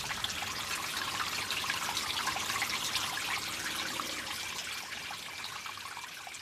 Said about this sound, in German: Wir hören die Quelle. Wir sehen das Wasser fließen.